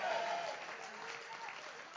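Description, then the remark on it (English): A church audience stands and claps steadily in dense, continuous applause, shouting yes over it, one raised cry standing out at the start before the cheering blends into the clapping, on the first Sunday of 2026. “Would you stand to your feet and clap your hands and shout yes?”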